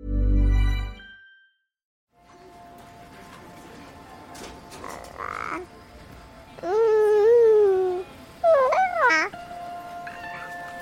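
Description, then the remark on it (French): A baby cries in two short, wavering wails a few seconds apart, fairly loud, with a few soft rustles between them, after a brief deep tone at the start. “En fait, j'interprétais tout de suite ces pleurs comme de la douleur.”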